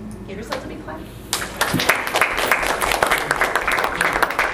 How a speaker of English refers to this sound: Give yourself a big clap.